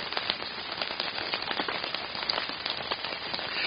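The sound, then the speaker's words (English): Hail pelts a roof in a dense, steady clatter of countless tiny impacts, continuous and fairly loud throughout, with no voices. “Is that hail?”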